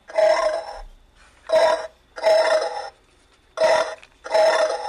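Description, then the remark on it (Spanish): Five loud, rough pig grunts from a novelty pig toy kept in a fridge, which grunts when the fridge is opened. Each is a short buzzy burst with gaps of silence between them, in an uneven rhythm and with no talking. “lo que hace el cerdo cuando abres la nevera o, ojo, cualquier estante a la cena donde tengas el cerdo.”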